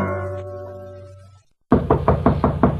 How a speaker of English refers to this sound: Who's that knocking at my door?